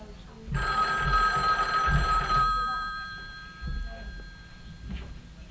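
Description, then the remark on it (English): A telephone bell rings in one loud, buzzing burst of about two seconds, then fades away, with a low muffled background rumble continuing underneath. “come answer the phone.”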